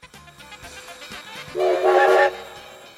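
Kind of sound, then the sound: vehicle, train whistle blowing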